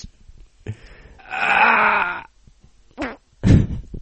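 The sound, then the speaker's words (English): A drawn-out, buzzy fart sound lasting about a second, followed by two short blurting bursts near the end, fairly loud with no talking. “He likes to get a little fart noise at the end.”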